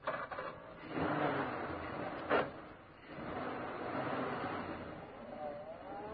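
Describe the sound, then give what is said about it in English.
A car engine turns over with the ignition key and catches, settling into a steady rumbling idle, then revs with a rising whine as the vehicle pulls away. It is moderately loud, with no talking. “I hope that ignition key of yours works, Pike.”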